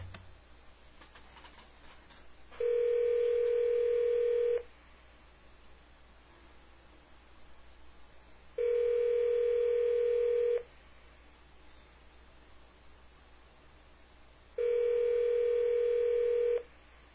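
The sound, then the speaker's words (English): A telephone ringback tone on a call to a payphone buzzes three times. Each steady two-second ring is separated by about four seconds of quiet line hiss, heard clearly as if through the handset. “All right, we're going to call up a nice little payphone.”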